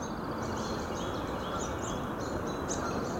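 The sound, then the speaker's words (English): A chorus of birds by Spruce Pond on Lockwood Drive in Franklin, Massachusetts, sings in the morning with high, repeated chirps and trills throughout, partly masked by a loud, steady rumble of traffic from Interstate 495 that fills the background. “The birds versus the traffic.”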